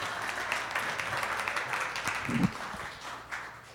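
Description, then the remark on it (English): A crowd applauds steadily as a guest is brought up, a dense crackle of many hands clapping at once that stays fairly even throughout, with a brief low thump and a slight swell near the end. “Hey, an applause would be good right here.”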